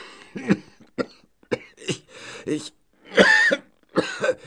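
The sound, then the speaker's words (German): A person coughs repeatedly, a series of harsh bursts in an uneven rhythm, with throaty rasps between them and a louder, longer cough near the end. “Ich brauche ein Mittel gegen Husten.”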